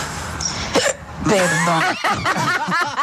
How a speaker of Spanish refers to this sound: Tengo hipo, estoy intentando grabarte el audio, pero cuando estoy a punto de finalizar...